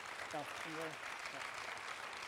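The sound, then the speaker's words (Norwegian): An audience claps in a steady, dense wash of applause, with a few voices briefly shouting or cheering over it near the start. “Ja, gi den en applaus.”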